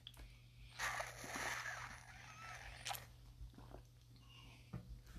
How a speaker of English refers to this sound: Take a sip of water, actually, before I get my groove on with this.